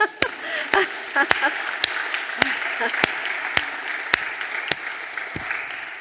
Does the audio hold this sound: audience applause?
yes